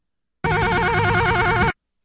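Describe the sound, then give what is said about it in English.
A single warbling, trilling burst, about a second and a half long, loud: a laugh that imitates a hotel phone ringing, with no talk around it. “Hotel phone laugh?”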